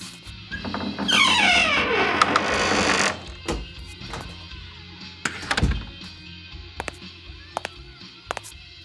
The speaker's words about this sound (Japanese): ここがかの有名な第5スタジオか。お邪魔します。ドア、重ー。さすが録音スタジオ。